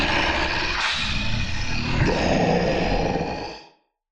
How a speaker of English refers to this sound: Her great jaws part. Her rhythmic, rumbling roar washes over you like the slime from your pupation.